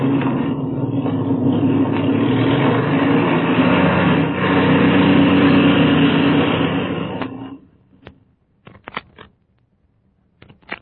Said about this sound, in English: I'm going to warm up the engine as we taxi up.